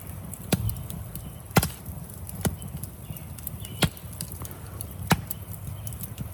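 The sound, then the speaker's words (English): A wood fire crackles on a cold evening with sharp, irregular pops every second or so, set against a steady low rumble of burning, with no voices. “The sound of fire crackling is so natural and soothing to the ears.”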